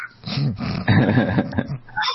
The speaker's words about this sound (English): I just heard this cat.